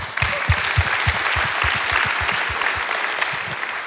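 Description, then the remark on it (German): Steady applause from a group, dense overlapping claps at an even pace, fairly loud and sustained for a few seconds with no voices over it. The applause is for the supporters of a ministry who help, pray and give. “Also an der Stelle ein Applaus für euch.”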